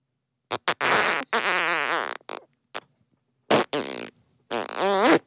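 A string of loud, buzzy fart sounds: several short pops followed by longer, wavering blasts with a rippling pitch, separated by brief silences.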